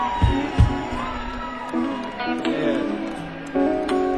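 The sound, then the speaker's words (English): An audience cheers and whoops continuously in the evening for a guitarist being introduced, with high shouted voices rising over a dense wash of noise and a couple of heavy thumps near the start. “Make some noise this evening”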